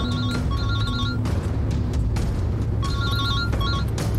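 A telephone rings with a warbling, trilling tone in short paired bursts, pausing between rings, over a steady low rumble of background noise, as a call comes in while driving away from an airport.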